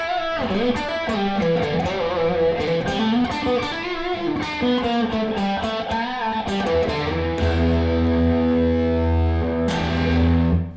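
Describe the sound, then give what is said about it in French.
Heavily overdriven electric guitar through a pedal with Plexi-style tones, its boost engaged and high gain, playing a loud, gritty run of notes before settling into a long sustained low chord that rings with thick distortion. “Alors ce que je vais faire, c'est que je vais quand même essayer de te mettre le boost pour se rendre compte.”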